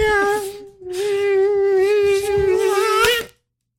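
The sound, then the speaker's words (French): A person hums a high, nasal, wavering whine imitating a mosquito's buzz, held steadily for about three seconds with a brief dip, fairly loud, then silence. “Après, il fait le moustique.”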